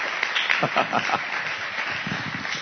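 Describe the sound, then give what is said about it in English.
An audience at a church service applauds steadily as a preacher is welcomed, a dense wash of many hands clapping at once, fairly loud and continuous, with a few voices faintly mixed into the crowd noise. “So let's give him a good round of applause.”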